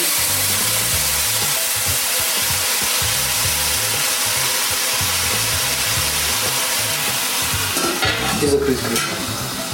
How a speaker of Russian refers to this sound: И положим туда овощи. Пожарим на зерке цветную капусту. Потом налить немножко воды.